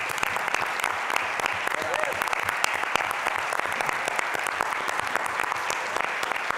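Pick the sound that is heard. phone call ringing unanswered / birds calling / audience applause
audience applause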